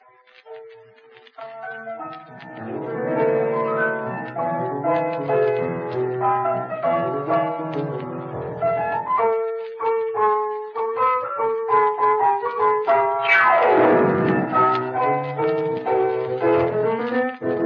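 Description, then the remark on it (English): Lively rumba music plays steadily with a bouncing rhythm and bright melodic lines, briefly swelling with a sweeping upward-and-down run near the end; no one speaks over it. “That is the rhythm of the rumba.”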